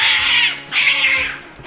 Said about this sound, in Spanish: Mira, un gato.